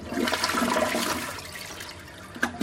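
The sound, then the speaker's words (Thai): A water-saving toilet at the Hilton Los Angeles Airport hotel flushes, a steady rush of water swirling that gradually eases off, ending with a brief gurgle and a fresh surge near the end. No one speaks. “ทางโรงแรมยังใช้หลอดไฟประหยัดพลังงานและโถชักโครกแบบประหยัดน้ำด้วย”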